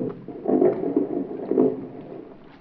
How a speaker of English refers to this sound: That's what I was doing the day that big speedboat and its passengers first came into my life. The motor was missing. It conked out just offshore.